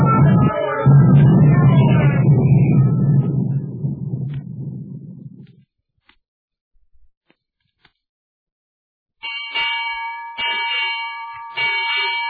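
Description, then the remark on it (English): A ship's bell strikes six bells in a quick series of bright, metallic strikes, clear, following a burst of heavy rumbling noise and a few seconds of silence. “Six bells and all's well.”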